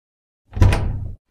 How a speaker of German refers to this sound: Abgeschlossen? Die Tür ist abgeschlossen?